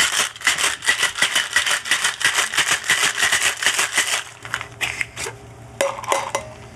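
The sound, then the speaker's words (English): Ice rattles inside a cocktail shaker as a gin martini, already chilled to 24 degrees, is given a gentle shake with a little ice, in a quick, even rhythm for about four seconds, a bright clattering at moderate loudness, then trails off into a few scattered clinks. “We just give it a gentle shake because it's already chilled to 24 degrees.”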